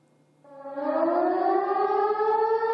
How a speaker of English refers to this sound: Sirens. They named it Nuclear Alarm, so I just wanted to know what that was.